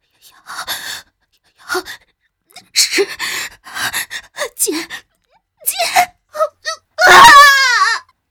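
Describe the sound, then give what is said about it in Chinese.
A woman being burned by flames lets out a string of short pained gasps and whimpers, then a loud, shrill, wavering scream that rises and falls in pitch before cutting off. “妖姬被火焰燎得痛不欲生，此时实在忍不住竟尖叫出来。”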